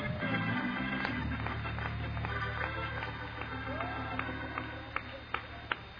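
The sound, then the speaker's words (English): An audience claps hands steadily in praise to God before being seated, amid a dense wash of murmuring voices, with a low sustained hum underneath and a few sharper claps standing out near the end. “Clap your hands before you're seated.”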